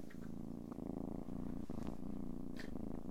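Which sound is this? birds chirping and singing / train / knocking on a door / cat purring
cat purring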